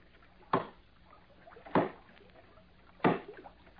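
Oars are set down in a wooden rowboat on the water, approaching a log jam: three hollow knocks spaced about a second apart, each sharp and brief against a quiet background with no talking.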